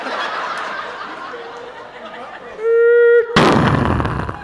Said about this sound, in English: Shit, we hit something. We got rear-ended by a domino truck.